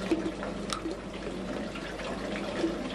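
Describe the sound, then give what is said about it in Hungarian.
Water carrying trout waste flows steadily through shallow channels of aquaponic plant beds, a continuous trickling and gurgling with small splashy accents, moderately quiet and unbroken, with no voices. “Ezeknek a pisztrángoknak az ürüléke kerül bele a vízbe, ami aztán átfolyik a növényágyokon.”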